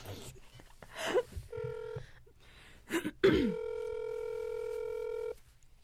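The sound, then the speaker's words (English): A phone call rings out over a speaker: a short electronic ringback tone, then a longer steady one after a pause, with brief murmured voices in between. “Okay, but we have to call on your phone because I need the Google Doc.”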